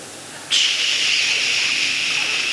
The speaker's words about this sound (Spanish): Así que deme la estática y, bueno, un chinchín de ruido ahí. Un poquitito ahí, más alto.